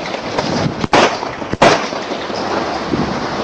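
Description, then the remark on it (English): Two sharp, loud gunshot cracks about a second apart, fired by a South Carolina state trooper at an unarmed driver at a petrol station, over a steady rushing background noise; no voices are heard. “the policeman started shooting at him”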